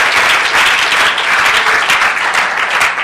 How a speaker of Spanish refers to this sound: Entonces, démosle un aplauso al Señor. Gloria a Dios, gloria a Dios, gloria a Dios, gloria a Dios.